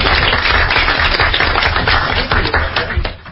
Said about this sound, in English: Okay, a round of applause.